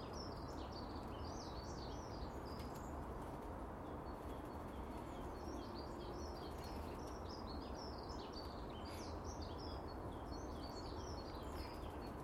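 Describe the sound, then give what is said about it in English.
Several birds sing in quick, high-pitched chirping phrases that come in bursts throughout, set against a steady, heavy rumble of background noise. No one speaks. “It's such beautiful bird song.”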